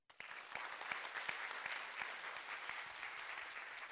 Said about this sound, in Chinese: 俾掌声我哋神啊嘛！